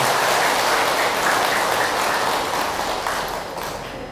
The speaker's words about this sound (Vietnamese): Hãy cho một tràng pháo tay thật lớn để cảm ơn.